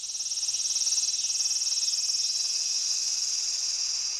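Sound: loud cicadas chirring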